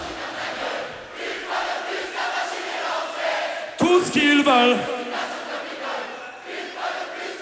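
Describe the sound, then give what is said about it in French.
A large concert crowd sings along in a loud, dense wash of many voices, swelling midway into a stronger, more tuneful chorus before settling back into a steady roar. “En tout cas, on les entend bien et ça fait plaisir.”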